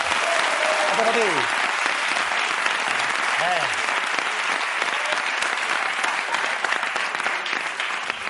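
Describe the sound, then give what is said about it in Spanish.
An audience claps loudly and steadily for several seconds, a dense wash of applause with a couple of brief shouts or whoops rising out of it near the start. “Ahora, bueno, no, primero, un aplauso para Ricardo Grisón, por favor.”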